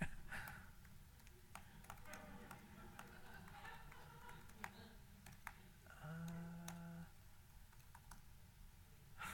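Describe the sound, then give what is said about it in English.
Someone types on a computer keyboard to start recording Bluetooth low energy packets, producing a steady stream of irregular, crisp key clicks over a low background hum, with a brief murmured voice partway through. “I can't even see what I'm typing.”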